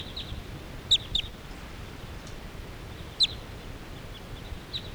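Flight calls of a crossbill flock flying away: a handful of sharp, high chips, some in quick pairs, scattered irregularly over five seconds above a steady low rumble of wind noise.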